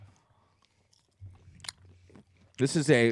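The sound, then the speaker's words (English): Quiet chewing of spicy, pickled jerky with a smooth outside: soft wet mouth clicks and a brief crunchy snap over a low hum, followed by a voice starting to speak near the end. “This is more of a like a Slim Jim has like a grainy outside. Smooth. This is a smooth outside. I just swallowed some.”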